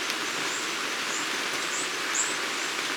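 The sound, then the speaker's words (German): Steady, even hiss of rain falling outdoors at the Bergische Waldklause, recorded from inside looking out, with a couple of faint high chirps rising briefly above the wash of noise. “Angesichts des Regens nehmen wir jetzt von innen heraus nach außen auf.”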